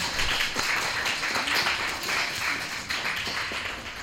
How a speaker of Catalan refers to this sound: aplaudiment per la tutora de 5è A i per les entrevistadores